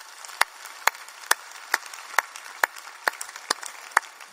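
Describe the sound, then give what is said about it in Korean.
An audience applauds, a dense wash of clapping with sharper individual claps standing out at a steady beat, roughly two per second, with no voices. “많은 영광의 박수 드리겠습니다.”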